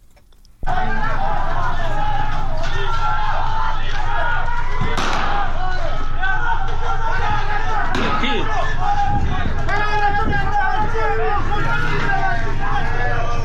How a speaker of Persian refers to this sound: و در چندین محله اصفهان دیشب تظاهرات پراکنده صورت گرفت و به ویژه در فولاد شهر اصفهان که مردم شعار می دادن.